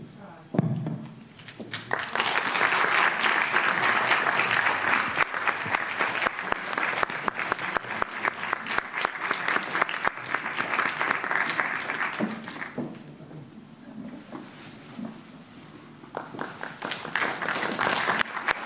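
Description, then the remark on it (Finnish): An audience breaks into sustained applause for a project team as flowers are presented, a dense wash of clapping that runs steadily for over ten seconds, dips briefly, then swells again near the end. “niin haluamme nyt ojentaa kukat ja sitten mä toivon, että yleisö varmaan antaa raikuvat aplodit meidän hankkeen päälle.”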